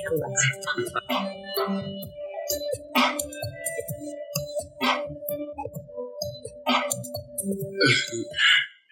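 A dog barks in short, sharp bursts at irregular intervals, about four or five times, over a steady low hum and some background noise.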